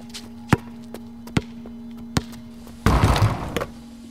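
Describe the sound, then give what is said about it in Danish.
A basketball bounces on hard pavement as a neighbour's son plays basketball, several sharp, spaced thuds over a low steady hum, followed by a louder scuffing, rumbling burst near the end. “Og så var der en nabo, som med naberklør forsøgte at stoppe vores læhegn, som vi ville have på grund af deres søn spillede basket. Og vi havde den der dunk-dunk-dunk-dunk-bunk, dunk-dunk-dunk-dunk-bunk.”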